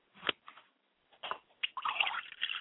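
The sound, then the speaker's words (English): Water is poured onto the ground as a libation: a few short, irregular splats, then a longer, fuller stretch of splashing and spattering, moderately quiet, with no voices. “We pour water to the ground in our acknowledgement to acknowledge our higher self.”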